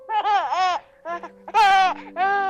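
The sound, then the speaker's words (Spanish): A baby cries in four loud, wailing bursts with short pauses between them, with a faint steady hum underneath and no talking. “Estos llantos de bebé tienen una justificación, no se crean, que aquí es que no damos puntadas sin hilo,”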